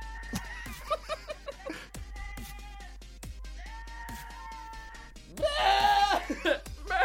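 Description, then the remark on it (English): A real goat gives a series of loud, quavering bleats that sound eerily like human screams or laughter, coming in short bursts before a longer, louder wail near the end, played back on a laptop over a faint background hum. “Okay, funny goat screaming like humans.”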